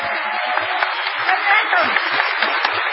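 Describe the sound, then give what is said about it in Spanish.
A steady, dense wash of applause from an audience at a world humorists' gathering in A Coruña, an ovation for the artist formerly called Gillespie, many hands clapping at once in a continuous roar with no pauses, holding at an even loudness throughout. “Memorable ha de ser la ovación tributada al artista antes llamado Gillespie.”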